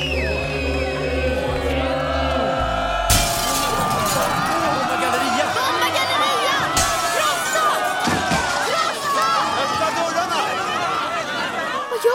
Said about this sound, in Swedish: Sten, mamma. De krossar fönstren i gallerian.